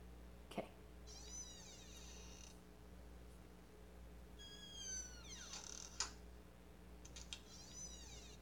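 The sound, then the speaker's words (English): A door creaks slowly open, its hinges letting out drawn-out squeaky groans in three stretches, with a couple of sharp latch clicks in between. The sound is quiet, and no one speaks. “Oh, got the door.”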